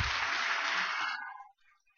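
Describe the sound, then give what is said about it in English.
An audience claps for a speaker celebrating 34 years of sobriety, in a dense, steady burst that carries on for about a second before quickly thinning out and fading to quiet, with no talking. “I heard it said that clapping for an alcoholic who quits drinking is like clapping for a cowboy with hemorrhoids who stops riding his horse.”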